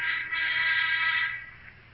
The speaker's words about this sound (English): Until shortly before noon, the sound of the inter-office phone arouses him.